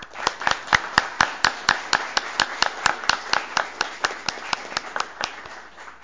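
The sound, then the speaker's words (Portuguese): Applause with steady, rhythmic hand clapping in a city council chamber (Câmara de Vereadores), honoring two people, crisp sharp claps at roughly four to five per second, continuing evenly for several seconds with no talking over it. “E peço uma salva de palmas para os dois.”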